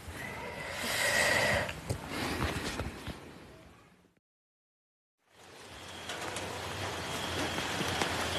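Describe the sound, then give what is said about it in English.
Steady rain patters densely on a balcony during a holiday, a continuous hiss of drops that cuts out into silence for about a second before returning just as heavy. “Escape the UK and it's raining on holiday.”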